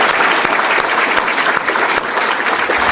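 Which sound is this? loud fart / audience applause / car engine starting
audience applause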